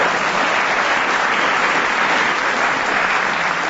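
Steady, loud applause from an audience fills the whole stretch, a dense wash of many hands clapping at once with no pauses and no talking over it.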